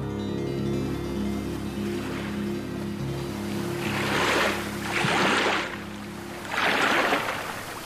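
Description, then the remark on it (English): A low, steady engine drone hums beneath open water, while three surging washes of waves splash in one after another, at a river harbor with huge boats floating along the river. “So Jalam brought me to the harbor instead. And what a surprise! Huge boats were floating along the river.”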